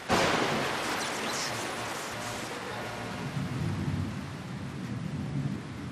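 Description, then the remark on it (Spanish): Heavy rain pours down in a dense, steady hiss over green fields in the Naya, with clouds around and the sun setting behind the mountain, a deep thunder rumble underneath, the downpour swelling slightly louder toward the end. No voices. “Y poco a poco, la lluvia coge más fuerza.”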